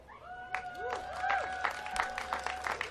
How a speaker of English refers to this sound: That was an applause line, and you got it. Good.